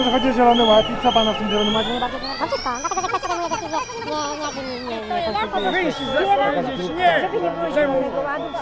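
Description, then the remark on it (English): Dense chatter from a large outdoor protest crowd of about 50,000 people, including farmers, miners and steelworkers, demonstrating against the Green Deal; many overlapping voices blend into a loud, continuous babble with no single speaker standing out. “A mic in my right hand, a recorder hanging down my neck, I plunge into the crowd ready to ask questions and understand these farmers.”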